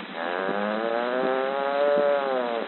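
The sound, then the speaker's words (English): A voice imitates cows in the meadow mooing: one long, buzzy, drawn-out low moo lasting nearly three seconds, its pitch swelling slightly and then sagging, loud and steady with nothing else alongside. “The cows in the meadow, they go.”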